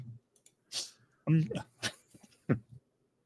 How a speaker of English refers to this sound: As he coughs. Yeah, you say that and I started coughing.